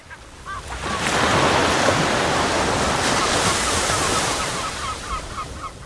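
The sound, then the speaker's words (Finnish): Sea waves wash steadily onto a sandy beach at Jokiniemi in Vantaa, a broad rushing surge that swells in after a moment and holds, with faint bird-like chirps rising above the surf near the end. “Vieressä meren hiekkaranta, joista kanootit lipuvat hylkeenpyyntiin merelle, jonka peitossa Helsinki on.”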